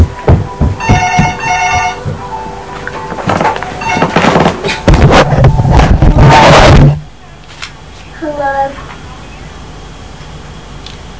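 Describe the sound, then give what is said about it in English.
A telephone rings in short trilling bursts near the start, followed by loud clattering and handling noise, then a quieter stretch with a faint chirping tone. “Go and look the phone then. Okay. I bet that's Nanny.”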